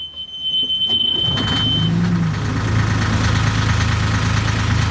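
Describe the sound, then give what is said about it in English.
A boat engine chugs steadily as the boat sails down the Caledonian Canal through the Scottish countryside, a loud low droning hum that runs without a break after a brief high-pitched whine fades out at the start. “We're sailing down the Caledonian Canal, going, like, literally right through Scotland, which is really cool.”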